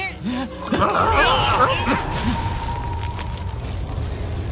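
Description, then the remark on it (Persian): A loud, rumbling explosion bursts in and its roar rolls on for several seconds, with a brief voice-like chuckle over the start. “بچه ها، این میز واقعا خوب ساخته شده، ولی من فکر نکنم بتونه یه انفجار دیگر رو تحمل کنه.”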